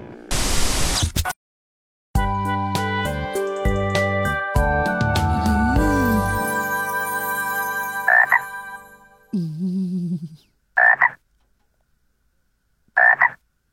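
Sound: frog croaking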